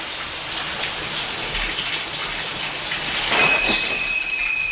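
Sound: shower water running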